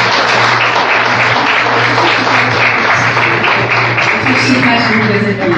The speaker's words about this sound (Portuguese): Então, uma salva de palmas para ela.